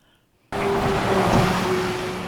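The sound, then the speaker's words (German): A motor vehicle engine roars past, starting abruptly after a half-second of quiet and holding a loud, steady drone with a faint tonal whine throughout. “Ich verstehe ja schon, dass die Futuristen so in den 20 Jahren begeistert waren von dem Sound der Motoren.”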